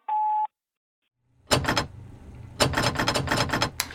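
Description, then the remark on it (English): A short electronic beep, a brief silence, then a door rattles and thumps in repeated loud bursts as it is forced and jostled open with difficulty. No one speaks. “Jesus, this door is becoming a problem.”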